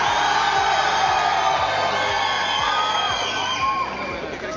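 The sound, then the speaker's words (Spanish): A large crowd cheers and shouts loudly and continuously, dense overlapping voices and whoops filling the space, with steady applause mixed underneath throughout, as the Caribe zone receives the torch in a torch relay. “Un aplauso, por favor. La recibe nuestra zona Caribe.”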